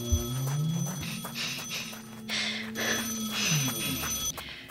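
A telephone bell rings in repeated bright bursts over a steady, humming tonal background, moderately loud, with no one speaking.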